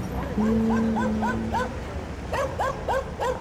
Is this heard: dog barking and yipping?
yes